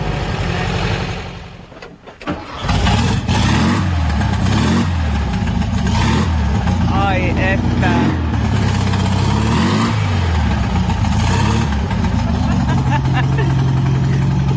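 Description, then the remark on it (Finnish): A Volkswagen Beetle engine cranks and catches around two seconds in, then settles into a loud, steady, rumbling idle, with a man speaking briefly over it. “Kyllä lähtee, etten sanoisi, sammutetaanko, ettei ne nyt aivan rupee heti huutamaan meille.”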